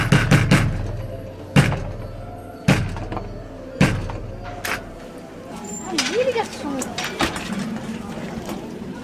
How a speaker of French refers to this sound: Et tous les acteurs, ils sont nombreux, une trentaine, les acteurs viennent s'asseoir. Et les portes vont ouvrir. Le rituel veut qu'Ariane Nouchkine ouvre cette porte.